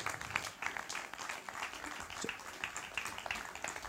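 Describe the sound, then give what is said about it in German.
An audience claps steadily for a few seconds for a volunteer called to the front, a dense wash of many hands with no voices over it. “Bitte einen kleinen, großen Applaus.”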